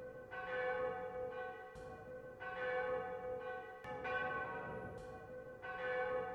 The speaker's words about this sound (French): Tous les bonheurs, tous les malheurs étaient traduits par le patois des cloches qui sonnaient au-delà des villages et des métairies, les baptêmes, les mariages, les communions, les agonies, les fêtes et les deuils.